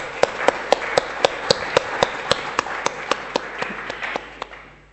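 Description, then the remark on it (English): A round of applause for people who came forward to share their life stories: sharp, evenly spaced claps ring out over a dense wash of clapping, steady and fairly loud for several seconds before tapering off at the end. “And I think we'll give another round of applause to those who've come out to do it.”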